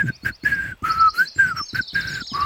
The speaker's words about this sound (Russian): А пташки мне лесные подпевают.